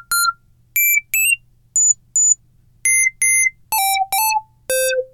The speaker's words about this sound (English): All right, let's mess with the oscillator. Oh, it stepped. I'm just turning the oscillator frequency knob now. I'm not changing notes on the keyboard.